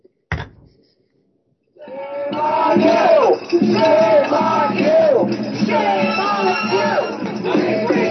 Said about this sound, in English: Here you have protesters at the U.S. president for his support of the Israeli killing machine. They shouted slogans like shame on you and hands off Gaza.